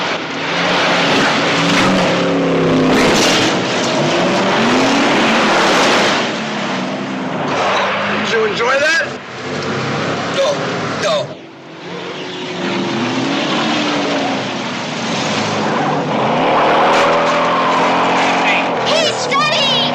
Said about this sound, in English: Oh, Jesus! Just another car jump.